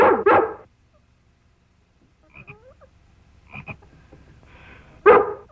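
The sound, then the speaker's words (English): A dog gives two loud barks, one at the start and one near the end, calling to make a frog jump, with a stretch of faint croaking and chirping in between. “We trained him to jump when Lassie barked”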